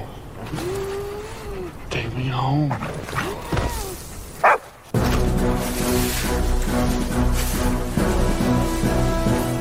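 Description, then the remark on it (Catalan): Krypto, the caped dog from James Gunn's Superman film, barks and yelps in a short excited run over a busy background of other sounds, then falls quiet as a loud, steady swell of music takes over. “Un gos a qui l'heroi crida, en moments de necessitat, amb el seu superxiulet.”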